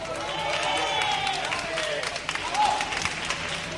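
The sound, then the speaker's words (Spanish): An audience applauds steadily for a few seconds for a contestant introduced in one corner of the ring at a science communication debate, a dense wash of clapping mixed with scattered cheers and voices, fairly loud throughout and thinning slightly toward the end. “¡Un aplauso para él!”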